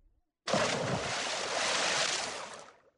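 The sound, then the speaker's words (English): A big, loud splash of Bagheera the panther and Baloo the bear jumping into a river, bursting in suddenly after a brief quiet, then a rush of churning, sloshing water that fades out over a couple of seconds. “Bagheera and Baloo jump into the river.”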